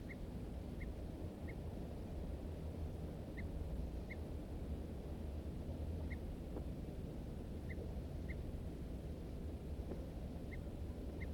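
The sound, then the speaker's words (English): Two birds, one of them a wild male, trade short, sharp alarm notes, about ten chirps in irregular succession, over a steady low rumble of wind or water. “M4 responds with alarm notes. Both birds now giving alarms.”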